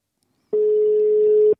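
A single steady one-second telephone ringing tone, a plain mid-pitched electronic hum heard on an outgoing call, clear and fairly loud with silence before it and no voices.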